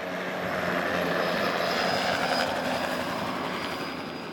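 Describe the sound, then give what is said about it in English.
A helicopter passes overhead above Newark City Hall during the funeral of Mayor Ken Gibson, signaling a march to Newark Symphony Hall, its steady rotor and engine roar filling the air at a constant, fairly loud level with a faint high whine, with no voices. “A helicopter flies overhead, signaling a march down to Newark Symphony Hall for the funeral service.”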